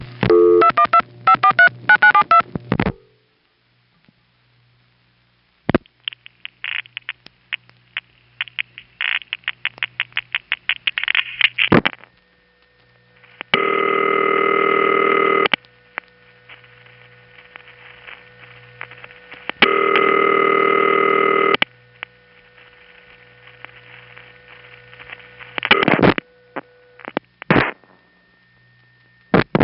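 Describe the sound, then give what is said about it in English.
Telephone exchange panel supervision test at the Kingsbridge central office in the Bronx, New York City: a burst of dialing tones, then steady trains of rapid mechanical ticks broken by two loud, sustained buzzing tone blasts, with no voices. “Just to illustrate this, let's call the panel supervision test in the Kingsbridge office, another Bronx building.”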